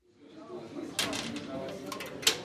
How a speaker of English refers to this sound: The doors are locked behind us at Rescatados del Abismo, rescued from the abyss. This is a rehabilitation center run by a Christian former addict on an ordinary street in the capital.